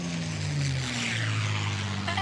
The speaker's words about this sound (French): Un chewing-gum, ça colle et un avion, ça décolle.